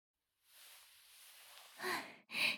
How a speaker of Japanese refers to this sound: あら？大きなあくび。ママのお歌で眠くなってきたのかな？